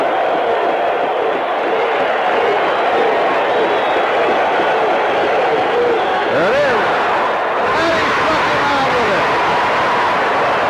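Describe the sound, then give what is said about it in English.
A huge crowd at Yankee Stadium roars continuously at full volume as Dave LaRoche strikes out Gorman Thomas on an eephus pitch in 1981, a dense wall of cheering and yelling that swells and never drops off across the whole stretch. “The thing I noticed, and I'm guessing you noticed during that clip, is that the crowd at Yankee Stadium is extremely loud. They're going bananas.”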